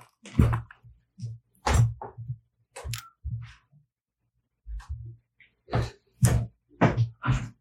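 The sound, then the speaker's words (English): A FedEx courier knocks firmly on a door in several irregular bursts of sharp raps, with short pauses between groups. The knocking is fairly loud, with no talking. “Did you guys hit the door?”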